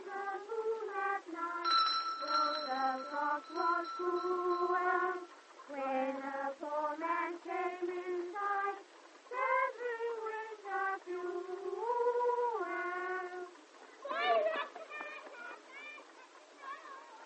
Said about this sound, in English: Children singing carols. Go away, confound you. Why don't you go away?